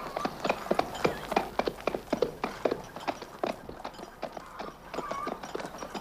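Horse hooves clip-clop in a steady, brisk rhythm across the whole stretch as a rider departs, dozens of sharp hollow knocks with no talking over them.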